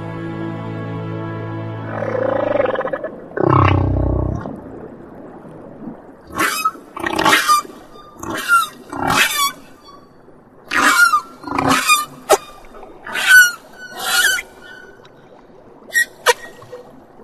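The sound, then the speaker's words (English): Humpback whale song in the ocean: a drawn-out harmonic moan and a deep groan, then a rhythmic series of about ten rising whoops and squeals with rich overtones. No voices are heard. “Kel will keep alive the ancient song of the humpback.”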